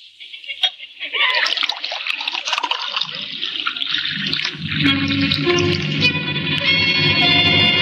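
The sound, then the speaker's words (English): Homemade elderberry wine pours into a glass in one steady stream, a splashy gurgle that turns into a rising, ringing tone as the glass fills. “Pour him a glass.”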